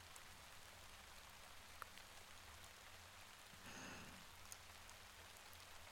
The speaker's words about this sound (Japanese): ねえ、おじさん、雨なんだかますます強くなってきたね。